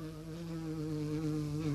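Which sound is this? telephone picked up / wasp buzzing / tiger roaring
wasp buzzing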